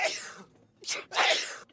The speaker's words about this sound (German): Und wenn Sie noch keine Angst haben, hier sind Bilder von Menschen, die an einer Salatbar niesen.